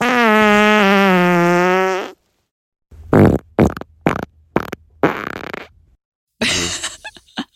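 A long, steady buzzing fart with a rich harmonic tone, followed by a quick series of short, sputtering farts and a final raspy one, all loud and close with no talking.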